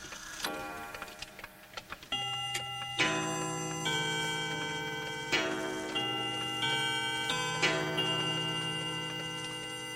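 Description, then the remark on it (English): Several clocks tick in quick, overlapping rhythms, then bright chiming tones ring out and sustain, with fresh strikes every couple of seconds layered over the ticking. No one speaks. “There was only one clockmaker, but many clocks.”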